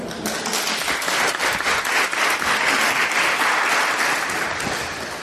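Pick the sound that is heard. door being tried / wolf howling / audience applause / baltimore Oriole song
audience applause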